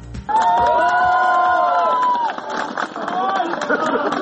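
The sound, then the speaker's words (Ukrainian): A loud crowd shouts "shame" in drawn-out unison, voices rising and holding together, over a constant roar of cheering and scattered clapping that carries on for several seconds, dense throughout, as the grating is taken down from a theatre building. “Під вигуки ганьба та оплески з будівлі театру таки скинули решетування.”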